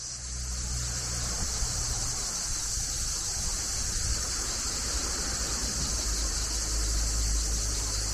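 A dense chorus of cicadas drones continuously with a steady, high-pitched, hissing buzz that never pauses, over a faint low rumble. No one speaks.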